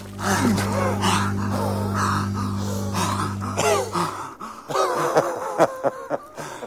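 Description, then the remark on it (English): Two men gasp and pant heavily for air after coming up out of a river, loud, their ragged breaths overlapping in quick bursts, with a steady low hum underneath for the first few seconds. “and they both gasp for air.”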